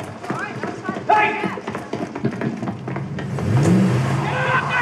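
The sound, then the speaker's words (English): A busy car-chase soundtrack from a Jake Gyllenhaal film, cued up by a technician inside a Barcelona film studio for dubbing: a roaring engine revs and rises in pitch amid clattering, thumping effects, with voices mixed into the loud, dense action. “Inside a Barcelona film studio, a technician cues up Jake Gyllenhaal's latest car chase.”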